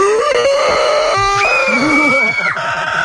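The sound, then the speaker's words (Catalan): During a live casting for Horrorland, a participant imitates a zombie with loud, strained, guttural groans and howls that waver and slide in pitch, running continuously for about three seconds. “Home, ens podries fer algun so gutural o alguna cosa tipus zombi?”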